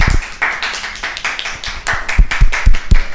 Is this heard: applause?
yes